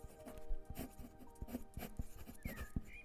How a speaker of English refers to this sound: But he was only truly calm and content when he was sat in the sun, lying on his belly and breathing softly, with a pencil and pad in his hand, sketching.